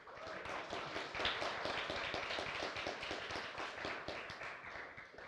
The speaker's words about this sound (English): 这种掌声呢，有一种特别的满足哎。 And so this kind of applause, there's this form of a satisfaction.